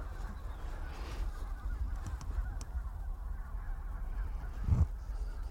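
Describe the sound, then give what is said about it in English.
A flock of geese honks repeatedly across a broad outdoor soundscape at sunrise, a noisy flock calling together and growing louder, with one louder honk standing out near the end over a steady low rumble. “Geese are getting louder.”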